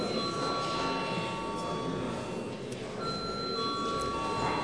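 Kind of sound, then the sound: signal or alarm, parliament voting bell ringing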